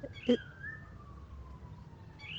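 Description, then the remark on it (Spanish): Faint birdsong around a house: a long, thin whistled note slowly falling in pitch, with short sharper calls at the start and end over a low background rumble. “Escucha esos pájaros. Hay un montón de pájaros en esta casa.”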